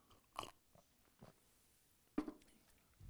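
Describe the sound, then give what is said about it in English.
Quiet, wet slurping as a speaker sips water at a microphone, a few short sucking bursts separated by pauses, with no talking. “I just slurped my water.”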